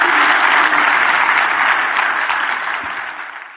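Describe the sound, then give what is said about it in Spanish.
An audience at Iglesia La Roca bursts into sustained applause for the Lord, a dense wash of many hands clapping at once that stays loud throughout and only begins to thin slightly toward the end, with no voices. “Si Dios te habló hoy, den un aplauso al Señor, que Él se lo merece.”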